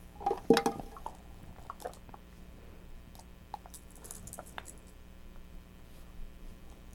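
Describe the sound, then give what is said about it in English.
Keys are handled: a louder clatter at the start, then scattered soft clicks and light taps spread irregularly over a quiet background, with no talking. “Those are keys.”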